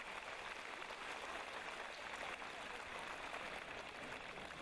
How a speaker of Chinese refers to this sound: 让我们用热烈的掌声感恩大慈大悲的观世音菩萨，感恩大慈大悲的卢军宏台长。